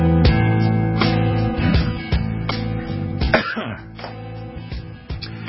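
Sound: throat clearing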